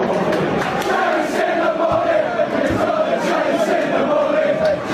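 A large crowd of football fans chants together in a stadium at a Cambridge versus Stevenage match, a steady, loud roar of many voices holding a sustained, droning tune with occasional sharper shouts cutting through.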